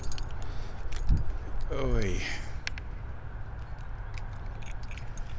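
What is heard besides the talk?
keys jangling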